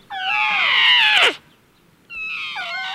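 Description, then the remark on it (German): A baby elephant trumpets twice, loud: a long, wavering, shrill call that drops at the end, then a shorter one after a brief pause, with no talking. “Oh, ja süß, der kleine Elefant, der schreit sicher nach seiner Mutter.”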